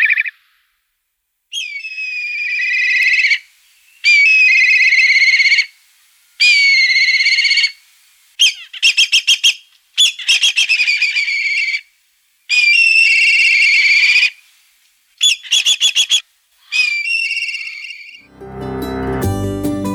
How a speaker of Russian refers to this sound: Эта птица крупная. Эта птица называется коршун. Или еще в народе его часто зовут цыплятник.